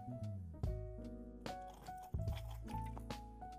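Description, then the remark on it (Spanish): Someone drinking water: a few wet gulps and swallows in an uneven rhythm, moderately loud, with a steady tonal hum running underneath and no talking. “Un ratito voy a tomar agua.”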